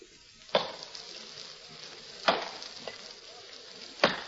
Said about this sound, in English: There was no sign of life about, but from the back of the house came the sound of somebody chopping wood.